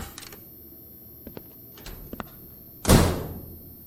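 door slammed shut

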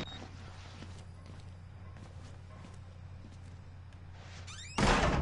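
door being slammed

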